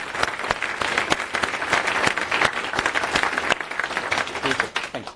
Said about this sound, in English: So a round of applause on that side.